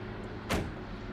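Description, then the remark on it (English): A single short thud of an SUV's door opening as the driver exits after stopping in a parking lot under concrete overpasses, over a steady low rumble of the idling vehicle, with no voices. “At a parking lot under concrete overpasses, she brings her SUV to a stop, then exits.”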